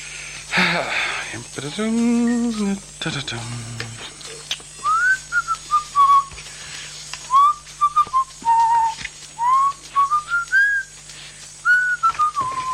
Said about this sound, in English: I have to pay APRA for that whistling, do I?